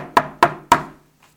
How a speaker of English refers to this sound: So he goes up there and he knocks on the door.